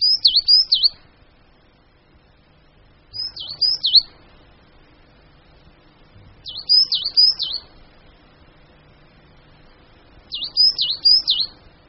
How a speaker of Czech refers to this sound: I když uhelníčci nemají takovou širokou škálu hlasů, jako například koňadry, přece se mohou jednotlivé hlasy od sebe lišit. Poslechněme si jinou variantu hlasového projevu uhelníčka.